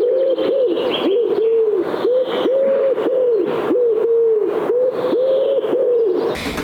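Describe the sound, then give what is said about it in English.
A pigeon coos loudly and up close in a steady, rhythmic series of about nine throaty calls, with no other sounds and no talking. “H is for Holobtsi, derived from the word for pigeon in Ukrainian, holub.”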